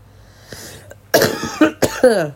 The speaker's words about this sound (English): Where's that cough?